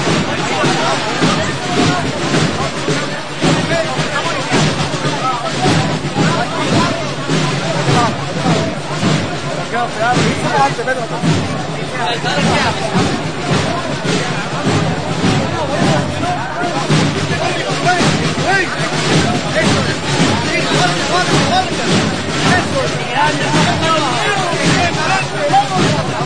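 A large crowd gathered on Calle Cerrón applauds steadily and loudly for the whole stretch as the palio procession of María Santísima de la Paz passes at about 12:11 at night, with lightning in the sky; a dense continuous patter of clapping mixed with general crowd murmur.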